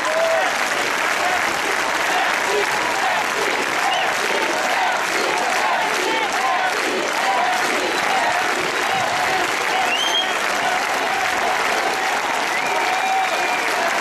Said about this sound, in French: Novembre 2015, comme après l'attentat contre les dessinateurs de Charlie Hebdo, la foule applaudissait les policiers, les forces de l'ordre en général.